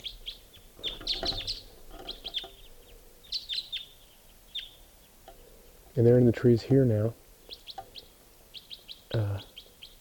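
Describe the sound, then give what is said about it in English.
A flock of birds chirps in quick, high-pitched bursts across the whole clip, with a man briefly speaking over them partway through. “And joined by another flock, so there could be as many as 10 birds coming around here.”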